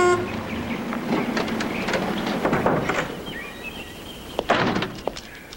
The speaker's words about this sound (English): Later, Kate stops by a small house in the woods. She honks a horn.